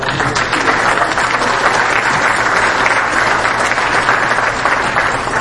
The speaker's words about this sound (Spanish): Quiero reconocer a nuestro amigo Víctor Toledo, para quien pido un aplauso.